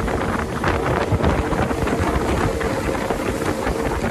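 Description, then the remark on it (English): A small fiberglass outboard motorboat bounces across ocean waves toward the village of Novotua in Fiji's Yasawa Islands, its engine droning steadily beneath loud rushing wind and splashing water, constant throughout with no voices. “We're sitting in a fiberglass outboard boat, skipping across the top of the ocean and heading toward the village of Novotua in Fiji's Yasawa Islands.”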